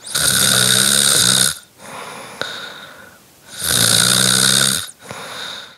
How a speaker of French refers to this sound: En plus, elle ronfle si fort que les murs tremblent et les planchers vibrent. Voilà à peu près ce que cela donne aux oreilles sensibles s'abstenir.